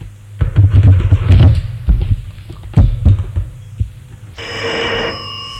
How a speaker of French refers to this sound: Le téléphone sonne. Le policier décroche.